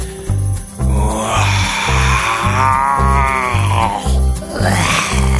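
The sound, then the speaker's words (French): A voice gives a long, loud, gravelly roar in imitation of a lion, rising and falling in pitch over a steady, thumping low beat. “C'est un lion. Tu as raison.”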